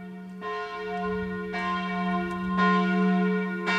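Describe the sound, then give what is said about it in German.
Church bells ring out with repeated strikes roughly every second, their sustained tones overlapping into a rich, continuous peal, the ringing as heard on 8 May 1945 to mark the end of the Second World War in Europe. No voices, just loud bells. “So hat es also getönt vor 80 Jahren am 8. Mai an vielen Orten, weil das Ende des Zweiten Weltkriegs da in Europa ist bekannt gegeben worden, 1945.”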